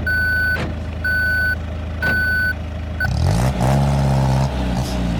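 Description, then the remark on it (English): A heavy armored truck backs up with loud, steady reversing beeps, about one per second, repeating three times before a diesel engine rumbles and revs up, drowning out a final cut-off beep. “We're back in the Brinks truck up again.”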